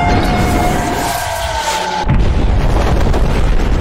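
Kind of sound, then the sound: sound effect, bomb explosion sound effect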